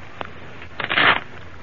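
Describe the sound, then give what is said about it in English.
A short, crisp riffle of a deck of playing cards being shuffled, a quick burst of papery fluttering after a faint tap, with no one speaking. “Shuffle them, would you please”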